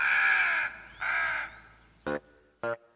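Several black birds circle and caw harshly overhead: two long, drawn-out croaking calls followed by two short, clipped caws, fairly loud and clear with no voices.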